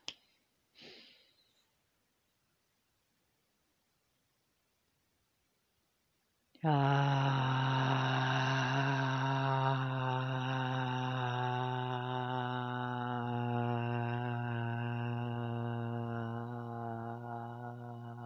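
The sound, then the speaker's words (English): A short, sharp breath in during a conscious breathing exercise, a few seconds of quiet, then a long, loud exhale voiced aloud as a steady sustained tone that holds for over ten seconds. “Thank you for joining conscious breathing exercise, being current.”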